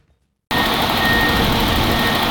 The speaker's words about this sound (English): The sound of drills in action. Here in Kuznica, in Poland's east, construction workers are pouring concrete next to a thin razor wire fence that separates the country from Belarus.